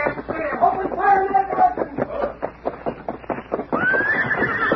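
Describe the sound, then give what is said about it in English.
A horse whinnies in loud, wavering high-pitched bursts, first early on and again at the end, while hooves clop and shuffle in quick irregular beats underneath. “Here's my horse.”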